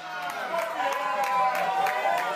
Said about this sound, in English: So that cheering is because... The result from California has just come in, and Barack Obama is taking California and Hawaii, Idaho, going to Romney. And as you can hear, this is very much a Democrat-supporting bar.